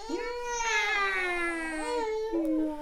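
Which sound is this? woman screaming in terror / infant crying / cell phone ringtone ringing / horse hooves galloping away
infant crying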